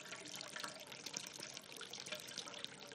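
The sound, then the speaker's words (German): Water pours steadily in a continuous splashing rush and keeps overflowing, moderately loud, with a faint trickling texture throughout and no voices. “Es wird wie nicht voll, aber da fließt es immer.”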